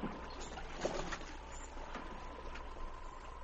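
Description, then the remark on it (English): A rowboat with two men aboard is rowed out from a dock toward a fishing boat, with soft, rhythmic oar splashes and a steady low hum of water and hull, fairly quiet and continuous with no voices. “On the fishing boat, Carlos and Pedro watched intently as the rowboat put out toward them.”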